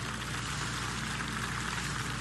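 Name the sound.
audience applause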